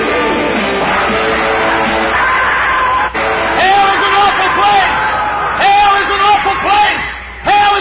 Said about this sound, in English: Look at those teenagers screaming. Look at those young people.